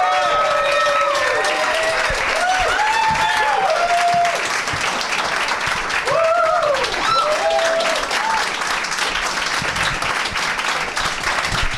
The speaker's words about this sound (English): Oh, shut up. You don't really like us that much. I was late. I did. I said, I asked for thunderous applause. I really kind of milked it. It was good. It was nice.